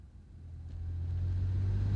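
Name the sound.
car engine revving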